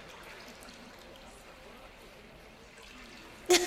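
Soft, steady trickling and dripping water fills the background, then a sudden loud, sharp splash breaks in near the end.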